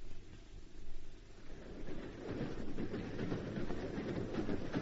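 An eastbound train heading toward Boston rumbles steadily along the rails with a continuous clatter of wheels, loud, growing fuller and busier after the first couple of seconds; no one speaks.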